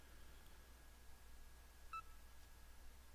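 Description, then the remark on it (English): A short, soft electronic beep from an audiobook player loading a Bookshare book file (Running Linux, 4th edition) sounds midway, with fainter blips before and after, over a quiet background hum and no talking. “And the little beeps indicate that the file's loading.”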